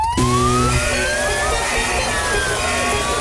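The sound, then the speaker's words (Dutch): A siren-style DJ alarm jingle: a loud electronic tone sweeps slowly upward in a wailing arc over a dense, buzzing backdrop, with a few low steady tones at the start and no talking. “Maar dat er heel veel DJ's alarm jingles gebruiken.”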